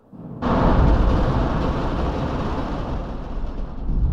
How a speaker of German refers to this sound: Oder die Kugeln fallen natürlich nicht im geraden Fall nach unten, sondern es sind Metalllamellen in diesem Kasten und die knallen gegen diese Lamellen und werden von Schacht zu Schachtwand geworfen. Und dadurch gibt es diesen Donner-Effekt.